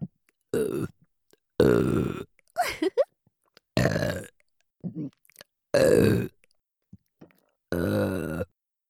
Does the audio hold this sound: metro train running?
no